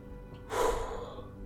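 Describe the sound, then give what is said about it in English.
One heavy, breathy exhale from a person standing still trying to calm down, a rush of air that swells quickly and trails off over about a second, with no talking around it. “I'm just going to kind of stand there and I'm just breathing heavy.”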